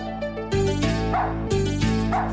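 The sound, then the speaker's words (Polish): A dog barks loudly in two quick pairs of barks, woof-woof, a pause, then woof-woof again, with no one talking. “Pies”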